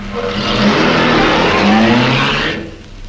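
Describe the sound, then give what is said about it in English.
A car engine revs loudly with rising pitch as the vehicle pulls away, the roar holding steady for a couple of seconds before fading off. No voices are heard. “And then he'll drive off.”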